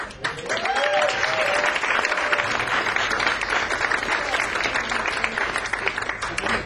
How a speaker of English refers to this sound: And Don Chambers, I forgot to give Don Chambers an extra round of applause.